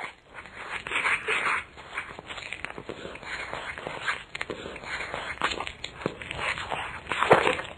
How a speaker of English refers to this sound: That's someone munching on an apple, I think